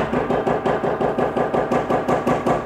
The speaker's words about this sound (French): Je frappe les 3 coups.